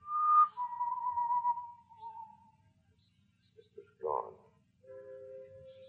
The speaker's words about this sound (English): The whistling was somewhere in the building. I listened. Where was it coming from?